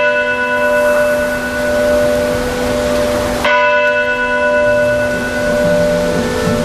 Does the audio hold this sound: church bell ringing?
yes